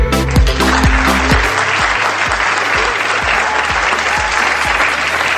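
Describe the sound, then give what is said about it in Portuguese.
An audience breaks into sustained applause, a dense wash of clapping that stays loud and steady throughout, with a low thumping beat running underneath. “Então vamos mandar um aplauso pra tua ex-mulher.”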